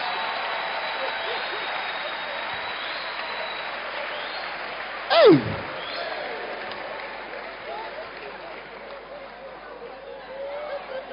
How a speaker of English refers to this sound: Okay. Clap for them.